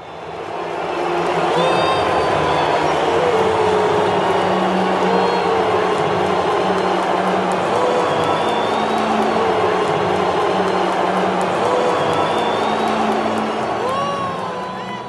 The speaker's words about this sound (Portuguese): Esse áudio que você está ouvindo é de 2019. É a reação da torcida à entrada de Jair Bolsonaro no gramado do Maracanã para entregar o troféu de campeão da Copa América daquele ano à seleção brasileira. Dá para ouvir aí muita vaia,